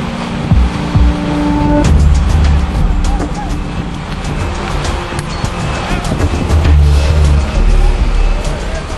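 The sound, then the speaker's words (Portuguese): Heavy garbage truck engines rumble and roar steadily at a landfill dumping site where the trucks dump mixed garbage from city streets, with clattering, scraping debris noise and indistinct voices mixed into a busy, continuous din of machinery. “onde os caminhões despejam o lixo misturado, do jeito que veio das ruas das cidades.”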